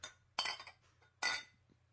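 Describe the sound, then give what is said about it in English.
22-ounce bottles of IPA beer clink together in a toast: a light tap, then two bright, ringing knocks about a second apart, fairly loud with no one talking. “Cheers again, my brothers. Cheers.”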